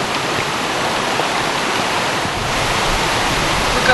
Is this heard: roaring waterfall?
yes